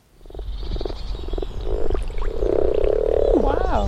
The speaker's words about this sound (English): Wow. Four, there's four of them. Four, five. That's amazing. The sound of mating frogs.